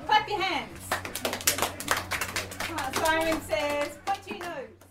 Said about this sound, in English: Clap your hands.